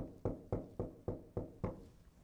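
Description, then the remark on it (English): Six firm knocks on a door in a steady, evenly spaced rhythm, each a dull wooden thud with a short decay, heard alone with no one speaking. “All of a sudden, they get a knock at the door.”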